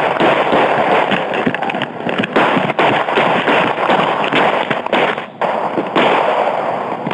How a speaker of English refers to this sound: One of the officers fires 12 shots.